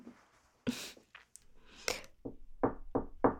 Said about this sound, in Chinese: 啊，有人敲门，是不是你女朋友来了？